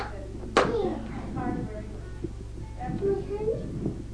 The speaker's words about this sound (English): can clap his hands. Look at that.